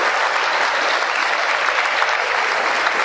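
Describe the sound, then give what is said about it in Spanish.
A crowd bursts into sustained applause for a group of young men, a dense, steady wash of many hands clapping at once, loud, holding evenly for a few seconds with no voices standing out. “¿Por qué no le dan un aplauso a esos muchachos?”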